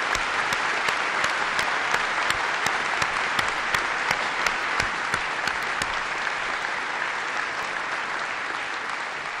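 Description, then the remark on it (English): Sustained applause from an audience for Bob Gates, a dense steady roar of many hands clapping with sharp individual claps popping out, holding at an even, fairly loud level throughout without any voices. “He deserves your applause.”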